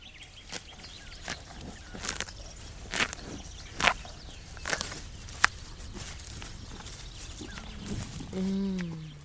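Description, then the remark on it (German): A cow chews fresh green grass and clover on a pasture in Brandenburg, Germany, with crisp tearing and crunching bites in an uneven rhythm over quiet outdoor ambience, and a short low tonal sound near the end. “Hier mampft die Kuh Luise genüsslich grünes Gras.”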